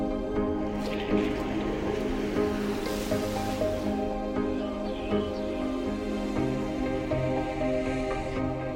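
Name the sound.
steady rain falling outdoors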